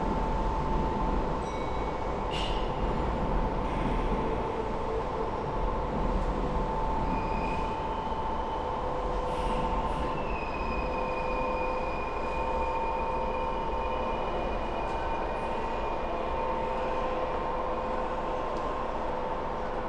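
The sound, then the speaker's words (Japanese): A steady rumble inside a moving Kintetsu semi-express electric train in Japan, bound for Tomiyoshi and next stopping at Kanie, with a constant low roar, clattering wheels, and a faint electric motor whine holding steady throughout. No one speaks. “欢迎大家乘坐近铁电车，本次电车是开往户籍的总台车。”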